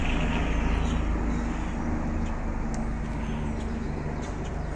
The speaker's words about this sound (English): There's a plane going over.